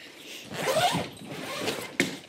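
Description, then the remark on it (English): Rasping of zips being pulled and fabric handled, a rising zipper stroke followed by scratchy rustling and a sharp rip or snap near the end, with no talking, as every pocket, zip and Velcro on clothing is thoroughly checked during a quarantine procedure. “As soon as every pocket, zip and Velcro is thoroughly checked”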